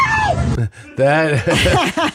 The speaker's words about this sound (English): That is a real scream of fear.